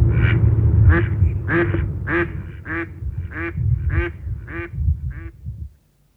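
Mallard ducks quacking in a steady series of about ten loud calls, roughly two per second, over a low rumbling outdoor background, ending in quiet.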